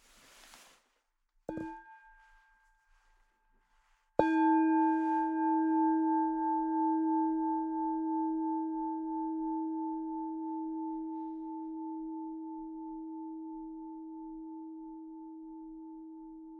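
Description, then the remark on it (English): A meditation bell rings: a brief, lighter touch first, then one full strike whose low, steady hum and bright overtones ring on and slowly fade over more than ten seconds. “And please allow the sound of the bell to reverberate inside of you.”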